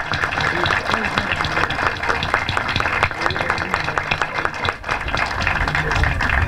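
A crowd claps steadily and densely for several seconds, a continuous wash of many hands with a faint murmur of voices beneath, applauding cooperative workers at the inauguration of a transit centre.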